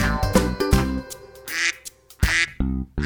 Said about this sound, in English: It has wings and a body, eyes and a beak. It has two legs. It has two feet. It's a duck. It's a duck.